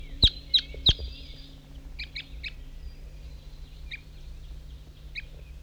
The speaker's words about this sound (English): I was on my way off, but there's some crossbills coming up to the hilltop.